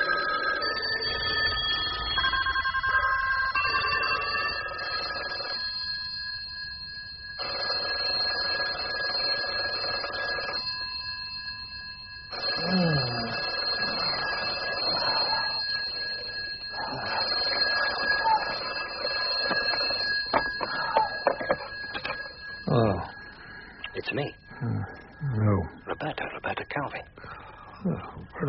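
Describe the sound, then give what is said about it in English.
A telephone rings in the morning in loud, shrill bursts separated by short pauses, then keeps ringing underneath as people begin talking over it. “The morning of his death, the phone lines were soon busy once more.”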